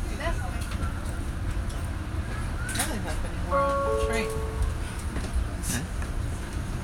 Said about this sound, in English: Nothing's happening, we're on a train.